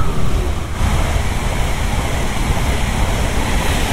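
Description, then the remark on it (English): A fast train rushes through a very green station on a pale grey, damp day. It makes a loud, steady roar with deep rumbling and hissing air that barely wavers for the full few seconds, with no voices. “You can hear a train coming.”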